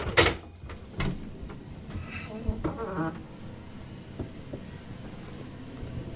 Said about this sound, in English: So we're going to go through this watertight door here.